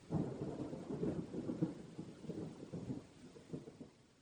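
Steady rain hisses throughout while deep thunder rolls and rumbles heavily underneath, swelling in the first seconds and then grumbling on more softly. No voices.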